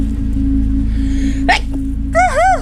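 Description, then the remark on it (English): A single sneeze by the speaker during a guided breathing exercise: a sharp breathy burst followed by a voiced, wavering tail, heard over a steady low droning background. “I'm gonna sneeze, hold on.”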